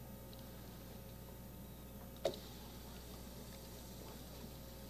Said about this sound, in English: Well, it's frying. Oh, look at that. How about that, huh? Boy, that's a donut already.